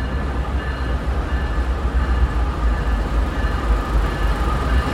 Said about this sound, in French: Locomotive quitte le quai de la gare dans un fracas absolu. Et ce train aux couleurs bleu turquoise, bleu vert, jaune et gris, part vers New York.